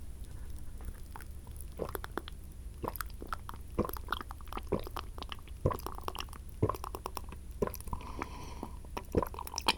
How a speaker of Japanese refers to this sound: ゴクゴクの音も聞く？